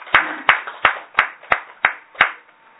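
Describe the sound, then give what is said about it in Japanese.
Applause in a steady, evenly paced rhythm, about seven sharp, fairly loud claps in quick succession before it trails off, given in celebration of a 26th birthday. No voices are heard. “26歳を迎えられましたので、盛大な拍手でお祝いします。”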